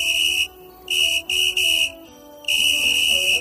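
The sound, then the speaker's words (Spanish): A football referee's whistle blows several shrill, loud blasts in a row, some short and some drawn out, with brief pauses between them and no voices. “Un pitido que suena a fútbol, a silbato de árbitro.”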